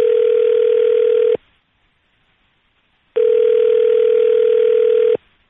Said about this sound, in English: Oh, the phone's ringing.